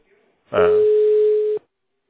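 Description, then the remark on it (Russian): A phone rings with an incoming call: one steady, mid-pitched electronic tone lasting about a second, starting with a brief buzzy burst, fairly loud and heard alone. “Вот мне звонят только что с нее.”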